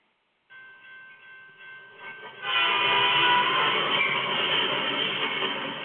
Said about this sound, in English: And I'm going to see how many are going to ride on it. This train. No, this train.